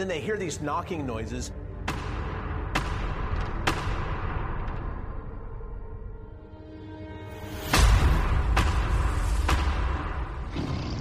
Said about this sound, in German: Für uns Menschen jedoch klingt dieses Klopfen sehr bedrohlich. In ein paar Fällen haben auch Jäger dieses Klopfen gehört.